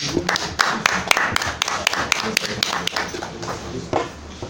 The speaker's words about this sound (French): Elles aussi méritent des applaudissements.